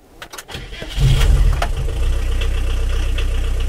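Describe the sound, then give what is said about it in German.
An old turbo-diesel bus, one of the first turbo-diesels made, with 70 horsepower, cranks with a few clicks, catches with a loud roar, then settles into a steady, low, rumbling idle. “Diesel. Einer der ersten Turbo-Diesel, die es gab, hat ganze 70 PS.”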